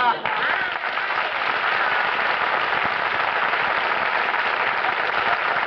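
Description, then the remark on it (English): A crowd applauds steadily, a dense, even crackle of many hands clapping that holds at a fairly loud level for several seconds without fading. “It says in the script I should come out, look adorable, and get applause.”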